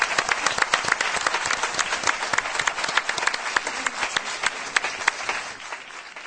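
A crowd applauds steadily for several seconds, a dense patter of many hands clapping at once, fairly loud and with no voices over it, tapering slightly at the end.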